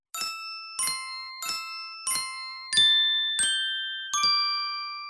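Seven clear, ringing taps with spoons on icicles of different lengths hanging from a roof, chiming like little crystal bells at shifting pitches, each note struck at a steady pace and left to shimmer and fade, with no voices.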